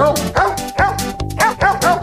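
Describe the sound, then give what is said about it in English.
Recorded dog barks pitched into a melody, a rapid string of bow-wow yelps following a bouncy Christmas tune in steady rhythm, loud with no talking. “I'm going to play this at home for my dog and freak him out.”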